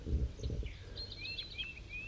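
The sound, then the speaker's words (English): A bird designated 5-3, just taken out of a net, calls with a quick series of short, high whistled notes, some slurred upward, fairly soft over a low rumbling background that is heavier at the start. “So that's 5-3 calling right there.”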